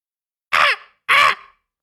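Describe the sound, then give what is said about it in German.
Two harsh, raspy caws, each about a quarter second long with a short pause between them. They are loud, made by a human voice imitating a raven, with nothing else in the background. “Ja, es soll ein Rabe sein tatsächlich.”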